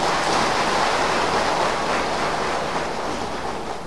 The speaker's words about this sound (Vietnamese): Xin các vị một tràng pháo tay.